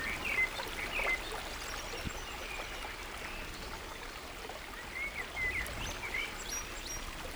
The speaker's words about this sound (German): Neben dir der rauschende Bach